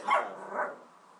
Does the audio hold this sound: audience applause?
no